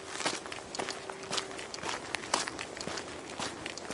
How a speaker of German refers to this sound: Wir laufen auf einem Sandweg. Auf der linken Seite die Küste, alles voller Seevögel.